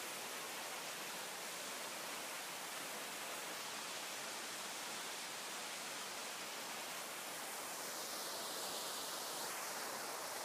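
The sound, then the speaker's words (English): A steady, unbroken rush of a 30-foot waterfall pouring over a massive rock formation at the rear of the Canada pavilion at Epcot, a dense hissing roar that holds constant throughout without any voices. “Now, at the very rear of the pavilion, toward the right, is a massive rock formation at the base of the Rockies, with a beautiful 30-foot waterfall cascading over the surface.”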